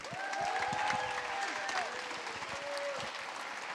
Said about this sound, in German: Wir fangen an mit Manuel Straube. Ihr kennt ihn als den Synchronsprecher unter anderem von Stewie, von Simba, von Bilbo Baggins. Ganz großen Applaus bitte für Manuel Straube.